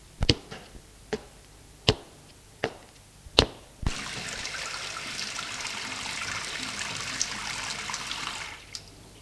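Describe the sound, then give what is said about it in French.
A few sharp clinks and knocks as a large pig-butchering knife is tapped against a sink, then a tap gushes steadily for several seconds as the knife is washed, before cutting off with a final click. No one speaks. “Elle le prit et alla le laver au robinet.”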